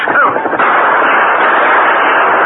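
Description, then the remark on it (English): A loud, dense volley of gunshots from five Indians shooting at someone in the draw below fires continuously, the shots blurring into a steady crackling roar that keeps the same intensity from start to finish. “They're shooting at someone in the draw below.”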